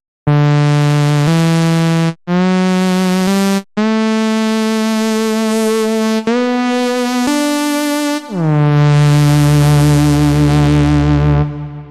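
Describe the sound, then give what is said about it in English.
A bright, buzzy synth plays a short run of sustained notes shaped with MIDI, sliding and bending between pitches with pitch bend, a gentle wavering vibrato, portamento, an attack envelope, low-pass filtering, a detuned second oscillator, reverb and a sub-octave, ending on a long low note that swoops downward. Loud, no voices. “You'll hear the exact same notes, but now they're altered with pitch bend, vibrato, portamento, an attack envelope, and low-pass filtering.”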